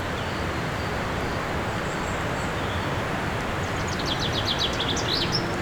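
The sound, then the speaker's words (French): Birdsong chirps and trills faintly, partly buried beneath the loud, steady roar of rushing mountain torrents that fills the whole scene. No voices. “Qui recouvre en toile de fond le chant des oiseaux.”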